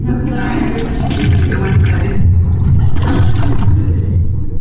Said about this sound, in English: And we'll be back after this toilet flushing.